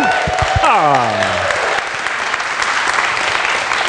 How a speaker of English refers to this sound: Let's give him a round of warm applause.